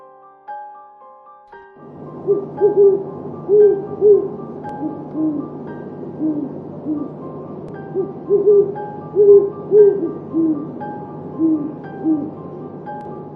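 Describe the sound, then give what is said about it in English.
Deep, resonant hoots of a great horned owl, commonly called a hoot owl, repeat in steady, rhythmic phrases for over ten seconds, clear, with a low continuous hum underneath and no talking. “These are the owls commonly called hoot owls.”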